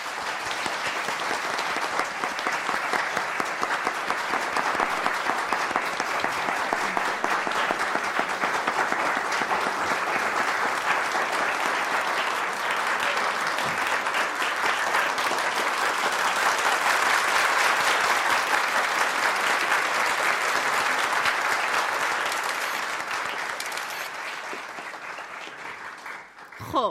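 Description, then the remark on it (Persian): A large audience at an award event claps steadily and loudly for almost half a minute to honor a guest, a dense sustained wash of hands that swells slightly in the middle and tapers near the end. “ازتون خواهش میکنم با دستای قشنگتون تشویقشون کنید.”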